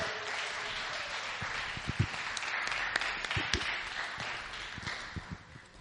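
An audience applauds steadily to welcome a woman coming up to share her story, a dense wash of many hands clapping at once, with a few sharper claps standing out. The applause carries on throughout and eases slightly toward the end.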